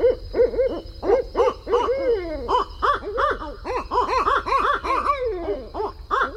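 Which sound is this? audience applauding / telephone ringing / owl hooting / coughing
owl hooting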